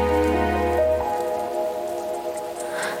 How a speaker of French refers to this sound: C'est la pluie d'été.